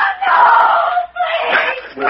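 A woman screams twice in long, piercing, sustained cries, loud and close, with only a brief break between them and no other sounds around.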